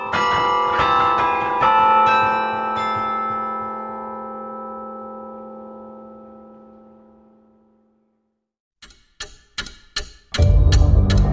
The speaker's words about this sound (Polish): A my przeniesiemy się z ratusza głównego miasta w jeszcze jedno miejsce, w którym w Gdańsku znajduje się karilon.